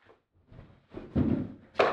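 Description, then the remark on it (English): A sturdy four-legged chair with a cushion scrapes and bumps across a hard floor as a speaker brings it up, with a few low thuds, ending in a sharper knock as it is set down. “Let me bring this chair up here.”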